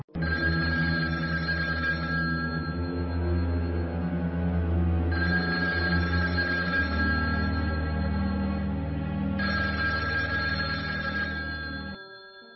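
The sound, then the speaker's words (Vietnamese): A telephone rings three times in long, steady bursts over a continuous low hum, each ring separated by a short pause, loud, with no talking, as a call is placed to the telephone operator. “Ba hồi chuông dài reo liên tục.”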